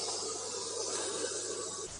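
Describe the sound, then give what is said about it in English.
Steady, unbroken static from an old analog radio as the dial is turned between stations with no signal, a broad rushing hiss with a faint low hum beneath it, holding an even level throughout with no voices and only a slight shift at the very end. “And sometimes as you tune in, it can sound like you just get this static.”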